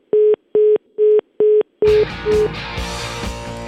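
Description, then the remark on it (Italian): A phone line going dead after a caller hangs up: a steady string of four evenly spaced busy-signal beeps, clear, cut off as a louder burst of noisy sound takes over. “ma devi sempre far così, devi sempre far cadere la linea, far abbassare la gente il telefono, dai.”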